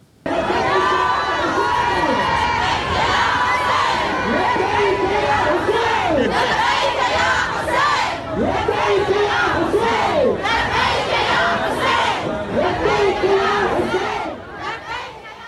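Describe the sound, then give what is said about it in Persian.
A large crowd of women, without Islamic head covering, cheers and sings together in the newly built stadium in Karbala during the opening of the West Asian Games, voices rising and falling in loud, continuous chanting for the whole stretch without a break. “اون هم در شرایطی که تازگی‌ها و در جریان گشایش بازی‌های غرب آسیا در شهر کربلا، زنان با آزادی و بدون پوشش اسلامی در ورزشگاه تازه تأسیس این شهر حاضر شدند و حتی آواز هم خواندند.”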